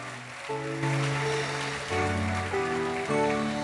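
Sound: audience applause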